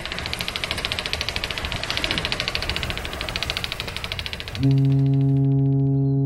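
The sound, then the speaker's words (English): A boat engine on a Hurtigruten ship trip chugs with a steady rhythmic throb, then near the end a loud, even tonal drone takes over, sustained. “The boat trip. On the Hurtigruten.”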